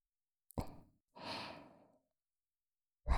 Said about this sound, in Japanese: 私の吐息、舌先の動き、そして唾液のぬめり。